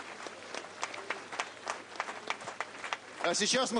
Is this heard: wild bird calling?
no